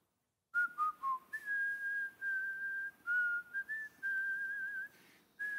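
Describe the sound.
A man walking past whistles the hymn Blessed Assurance alone, a slow melody with clear sustained notes and a few short phrases separated by brief breaths, moderately loud.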